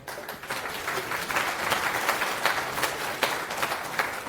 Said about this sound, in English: Round of applause.